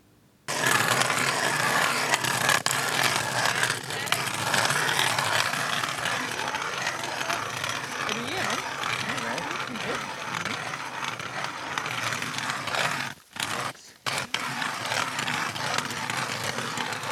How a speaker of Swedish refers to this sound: Men deltagarna sprider ut sig runt honom och borrar sig ner genom den nästan 80 cm tjocka isen. I hopp om att få upp det röda guldet ur djupet, fjällrödingen.